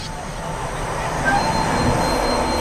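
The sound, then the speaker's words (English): A train rumbles steadily at a crowded railway platform with a faint metallic squeal from the wheels, over a dense hum of background noise and indistinct crowd murmur. “People crowd a railway platform.”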